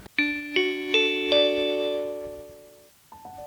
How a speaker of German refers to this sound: Das war der Gong für das Ende dieser Stunde Bildungsblick.